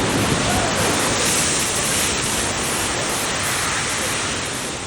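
nature, geyser erupting

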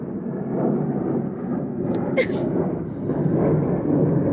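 vehicle, airplane flying overhead

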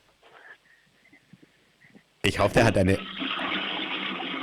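household object, toilet flush

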